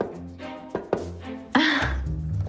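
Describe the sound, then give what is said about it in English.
Two quick, dull knocks on the open wooden door of an office, followed a moment later by a heavier thump, with a soft low musical drone sustained underneath. “He knocks.”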